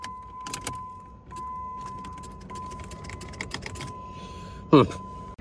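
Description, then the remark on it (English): Rapid, uneven relay clicking inside a 2005 Jeep Grand Cherokee that will not start, as someone tries to start it, with a steady electronic tone humming underneath and one louder clunk near the end. “I just looked at the diagram and the starter motor relay and everything is outside, so I don't know why I'm hearing that under here, so I'm going to investigate that.”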